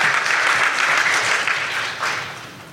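An audience at a church worship service applauds with dense, sustained clapping that stays loud for a couple of seconds, then begins to thin and fade slightly toward the end. No voices stand out.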